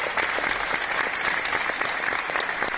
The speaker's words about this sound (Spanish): Ahí tiene ese aplauso, Javier. Sin duda se lo ha ganado, que descanse en paz y que nos haga reflexionar.